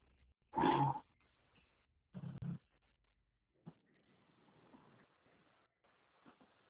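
Dogs bark in the background: one loud bark, then a quick pair of barks a moment later, followed by quieter room noise and faint murmuring, heard while someone works from home on a small balcony.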